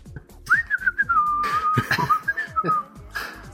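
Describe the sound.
A person whistles a wavering, drawn-out tone imitating a moose call. It rises sharply, then slides and wobbles downward for about two and a half seconds, loud, with faint low background noise.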